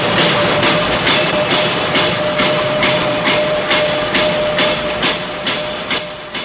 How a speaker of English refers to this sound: Thursday, construction begins on the new Coliseum at Columbus Circle, three blocks away.